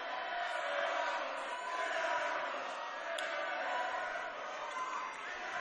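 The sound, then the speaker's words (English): A student crowd cheering on the Emporia State men at a basketball game keeps up a steady, dense roar of cheering and shouting, with no clear breaks across the whole stretch. “Nice little student crowd across the way, along with a Haunted Review.”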